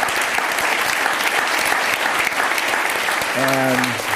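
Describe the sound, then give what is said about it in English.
Steady, dense applause from an audience fills the whole clip with a continuous patter of clapping, and a brief voice sounds faintly beneath it near the end. “Let's first applause that feeling.”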